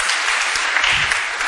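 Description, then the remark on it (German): An audience claps steadily at a dress being shown, a dense wash of many hands applauding at an even loudness with no voices standing out, lasting the whole short stretch. “Ihr klatscht einfach so, das steht hier.”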